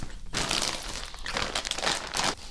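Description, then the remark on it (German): Dry nettle straw stalks crackle and crinkle as they are handled, in several bursts of brittle rustling over a couple of seconds, with no talking. “Das ist also das Nesselstroh, das ist so ein Halm.”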